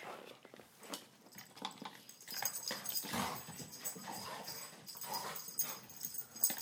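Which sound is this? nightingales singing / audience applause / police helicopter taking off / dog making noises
dog making noises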